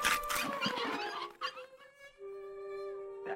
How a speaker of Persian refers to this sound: آخ سلام، وقت نهاره. وای الانم طول سگا دارن نهارشونو میخورن.